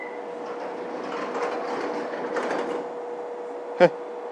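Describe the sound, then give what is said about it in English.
Underground train doors on a Circle Line platform, with a steady electrical hum and rumbling station noise building and fading, ending in a single sharp thud as the doors shut. “To the Circle Line. Tell by the sound of the doors.”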